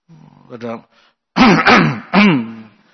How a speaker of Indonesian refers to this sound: Maka dia ngasih isyarat. Ngasih isyarat maunya supaya ini orang tahu ada orang di masjid. Maka dia berdehem.